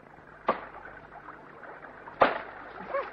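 Wood being chopped close by near a hut: two sharp, solid axe strikes land almost two seconds apart, each a crisp cracking thud, with a low murmur of background noise between them.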